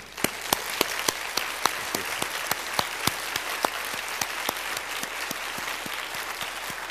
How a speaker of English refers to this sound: Let's give the dads in our midst this morning a hearty round of applause for loving us as they do.